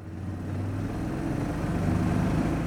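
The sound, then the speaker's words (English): A motorboat engine runs steadily during a boat trip up the Suwannee Canal, a waterway into the Okefenokee National Wildlife Refuge swamp. A continuous low rumbling drone holds even in loudness throughout, with no voices present. “We're on an hour-long boat trip up the Suwannee Canal.”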